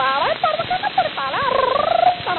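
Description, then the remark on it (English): A parrot being auctioned lets out a series of loud squawks, sliding up and down in pitch and ending in a fast, rattling warble, with no talking over it. “Now then, we'll pass right along to this beautiful Paul parrot.”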